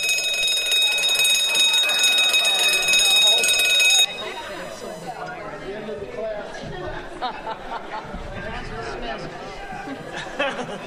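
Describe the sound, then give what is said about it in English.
A crowd at a convention rings small handheld "freedom bells" all at once, as hard as they can, in a dense, bright, high-pitched jangle for about four seconds. The ringing stops abruptly, leaving murmuring chatter and scattered voices. “If you could pick up your little freedom bells and ring them as hard as you can.”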